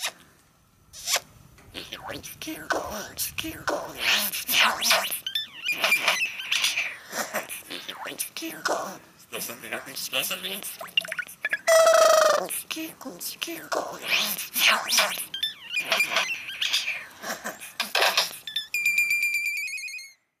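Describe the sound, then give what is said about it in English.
A curl-crested jay runs through a varied string of city sounds it picked up, mimicking raspy squawks, zipper-like rasps, a rising whistle, and closing electronic beeps like an alarm, loud with brief pauses between calls. “to at least give you an example of how birds can perfect the art of inorganic noisemaking, here's a curl-crested jay imitating some sounds it picked up while living in the city.”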